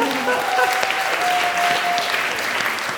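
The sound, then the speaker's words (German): Steady audience applause, a dense wash of many hands clapping at a fairly loud, even level for the whole stretch, with a faint whistle-like tone briefly riding on top. “Applaus für”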